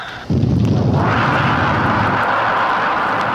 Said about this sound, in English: Now that means there are just 15 seconds remaining before our rocket is fired and goes soaring into space. 10, 9, 8, 7. Through the loudspeaker, we hear the seconds being counted off. 3, 2, 1, 0, fire!